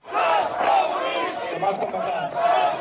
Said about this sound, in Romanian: În timpul discursului pe care a încercat să-l prezinte în fața mulțimii, oficialul a fost huiduit și fluierat de către participanți. Asta chiar dacă … a încercat să-i liniștească.